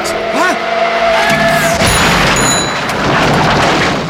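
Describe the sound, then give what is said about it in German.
A car with its headlights off in the darkness approaches with a rising whine, then a loud crash erupts into a sustained burst of noise with bright, tinkling shards like shattering glass scattering for a few seconds. “Er sah den Wagen erst, als es zu spät war.”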